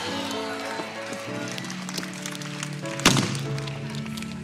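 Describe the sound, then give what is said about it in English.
A door slams once with a sharp, heavy wooden bang about three seconds in, cutting through steady, sustained organ-like chords that hold underneath throughout. “I keep slamming it because some of us have to make a decision that this is not something that's a quiet thing.”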